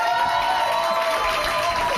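A steady wash of audience applause, dense and even, with crowd noise mixed in and a faint sustained tone running underneath for the full two seconds.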